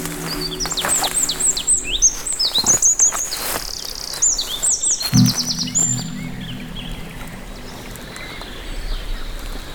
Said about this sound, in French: L'omniprésence des oiseaux. Et le doux clapotis de l'eau. Font le charme de cette forêt.